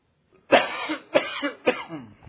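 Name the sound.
man coughing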